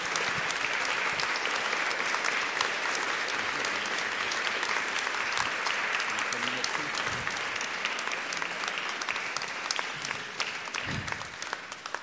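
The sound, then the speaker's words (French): Sustained audience applause for three authors, a dense, steady patter of many hands clapping at an even loudness for the whole stretch, with faint voices occasionally mixed in. “Et surtout, ben, je vais vous demander bien sûr d'applaudir nos trois auteurs.”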